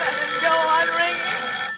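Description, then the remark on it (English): A telephone bell rings steadily and fairly loudly, a continuous bright metallic jangle that fills the whole moment without pause, with no voices over it. “Even if it goes on ringing all night, I won't answer it.”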